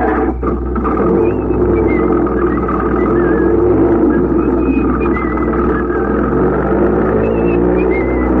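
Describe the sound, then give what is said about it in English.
Someone whistles a wandering, hard-to-follow tune in short high phrases, faint against a steady, loud low engine rumble that runs throughout. “Can't you whistle a tune that's recognizable?”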